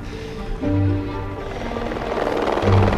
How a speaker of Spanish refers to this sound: cuando en ese vuelo de helicóptero … dice ¡ya le he visto!